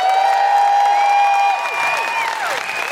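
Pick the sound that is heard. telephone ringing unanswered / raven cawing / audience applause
audience applause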